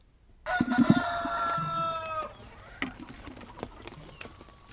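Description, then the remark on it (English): A rooster crows once in a long, strained call lasting about two seconds, followed by scattered soft clucks and small farmyard knocks, with no talking, on a mixed farm with chickens, dry fields and paddies in Saitama Prefecture near Tokyo. “This mixed farm in Saitama Prefecture near Tokyo has chickens, dry fields and paddies.”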